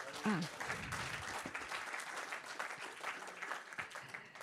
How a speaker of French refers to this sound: Merci de vos témoignages très incarnés, très vivants. On vous applaudit encore.